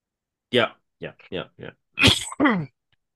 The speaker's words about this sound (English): Are you okay, good sir? Just a little, I have a bit of a cough,